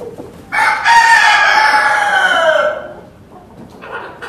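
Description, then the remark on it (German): A rooster crows loudly in one long, drawn-out call lasting about two seconds, with faint clucking and rustling of other chickens before and after, in the henhouse of the Federal Institute for Risk Assessment in Berlin, home to a laying group of 25 hens and three roosters on 22 square metres. “Das ist eine Legegruppe, das sind also Hennen mit drei Hähnen.”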